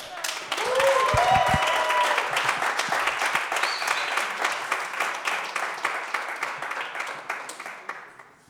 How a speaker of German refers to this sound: denn es wird die Nummer 1 jetzt direkt gezogen, das ist besonders fies, weil die Zeit kurz ist, aber ihr könnt viel Applaus geben und sie auf die Bühne holen.